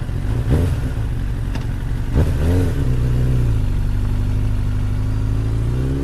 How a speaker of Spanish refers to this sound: Luego me subí a la moto y me fui directo de ahí.